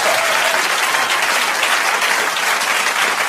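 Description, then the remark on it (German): Steady, loud audience applause fills the whole stretch, a dense wash of many hands clapping at once with no pauses and no voices rising above it. “Das war ein guter Applaus.”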